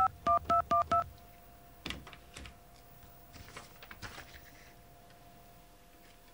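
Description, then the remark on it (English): Four quick, evenly spaced keypad dialing beeps, loud and clear, then a faint steady phone line tone carries on beneath scattered soft clicks and rustles, with no one speaking, as a phone call is placed to toll-free directory assistance for the Sprint PCS number. “Dial tone? All right.”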